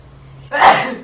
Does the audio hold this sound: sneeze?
yes